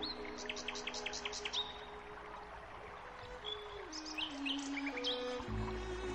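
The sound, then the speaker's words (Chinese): Birds chirp in spring in quick, bright bursts, first a rapid run of repeated tweets, then scattered calls, over a soft steady background of low tones. “鸟鸣啾啾，在春天里尽情欢唱。”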